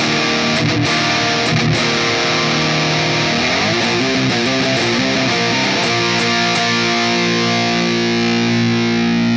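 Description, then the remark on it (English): A heavily overdriven electric guitar, played through an effects pedal, plays sustained, gritty chords and a short riff. It is thick with distortion and effects and loud, with a steady, saturated tone throughout. “And that's really letting the mids and the treble cut through the mix for that overdrive.”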